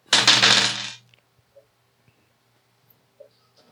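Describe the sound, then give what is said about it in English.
A sharp, bright clatter as dice are rolled, lasting under a second, followed by a few faint scattered ticks as they settle. No one speaks. “Roll that dice.”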